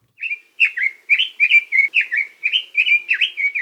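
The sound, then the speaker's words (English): A red-billed leiothrix, a non-native bird living in Hawaii, sings a rapid, continuous run of bright, warbling whistled phrases, repeating about every quarter second at a steady, fairly loud level with no voices. “For this week's Mono Minute, University of Hawaii at Hilo Professor Patrick Hart introduces us to the red-billed Leothrix.”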